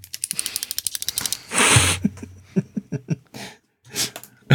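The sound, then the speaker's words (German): Coins rattle and clink, first in a quick, dense run of metallic clicks, then a short scraping burst followed by scattered, irregular jingles. “So, jetzt fange ich an, mit Münzen zu klappern.”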